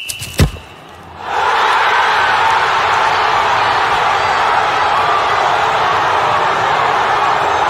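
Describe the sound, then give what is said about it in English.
After a sharp thud at the start, a loud, sustained roar of crowd shouting and cheering for the winning Napoli team swells up and holds steady, a dense wash of many voices celebrating. “There are some people we want to shout for. Are you ready to shout?”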